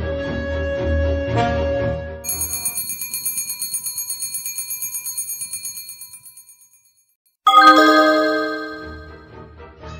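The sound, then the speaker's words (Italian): Soundtrack music played from a mobile phone connected to a small loudspeaker: a full opening chord, then a bright, rapidly pulsing bell-like pattern that fades to a brief silence before another loud chord bursts in. No voices. “Avete portato la colonna sonora di questa nostra avventura? Sì, aspetta che collego il cellulare all'altoparlante.”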